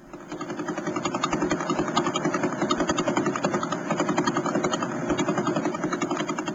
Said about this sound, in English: I always get a kick out of hearing pulsars. But what we're hearing there are radio waves converted into sound.